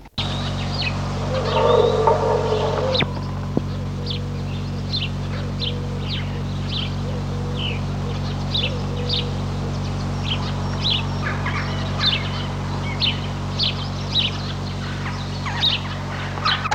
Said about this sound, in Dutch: De huismus.